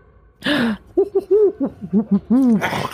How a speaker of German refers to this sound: Na toll, jetzt haben wir sie aufgeweckt. Ist halt eine Eule.